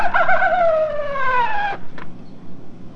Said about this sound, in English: This is the coyote. Okay, let's hear the coyote. Let's pull it way back. The coyote goes.